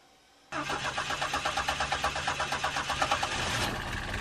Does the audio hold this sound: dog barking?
no